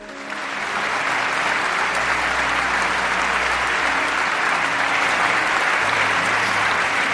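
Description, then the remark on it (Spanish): Sustained, dense standing ovation from the German parliament, the Bundestag, bidding farewell to Angela Merkel after 16 years in office, steady and loud throughout the whole stretch without pause. “Han sido 16 años de mandato y el Parlamento alemán, el Bundestag, la ha despedido en pie con una larga ovación.”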